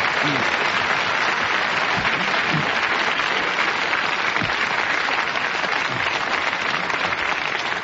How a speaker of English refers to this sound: But game to the end. So give it a good clap.